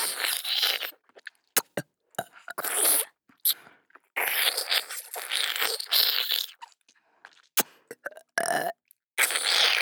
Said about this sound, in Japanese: ゲップたくさん出る。